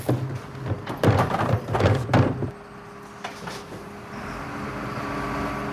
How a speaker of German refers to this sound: Ach so, dann haben wir nur das Geräusch von dem Müllauto gehört.